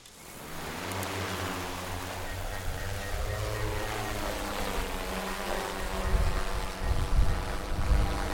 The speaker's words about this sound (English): All eyes were focused on Dr. Paul Nason's as he unpacked a drone from a case and then launched it into the sky.